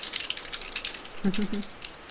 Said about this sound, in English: I hear the keyboard.